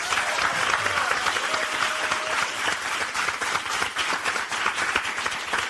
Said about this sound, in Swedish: Och vår fjärde paneldeltagare är programledare S för PP3 i P3. Gott folk, ge en varm applåd till Linnea Wikblad.